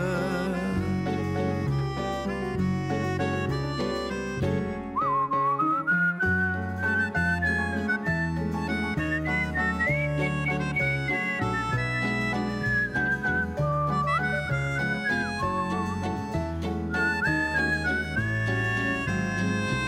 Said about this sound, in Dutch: Ik loop in de herfstwind een deuntje te fluiten.